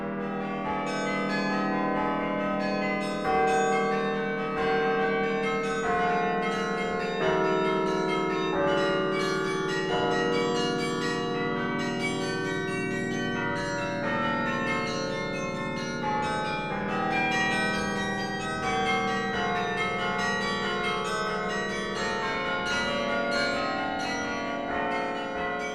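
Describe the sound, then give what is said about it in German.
Carillon bells in Ghent, played from a 73-key tower keyboard whose keys are struck with the fist or feet so hammers hit the bells, ring out in a steady, continuous melody. Many tuned bells overlap with long resonant tails at an even, moderately loud level, with no voices. “Dieses Glockenspiel in Gent hat 73 Tasten.”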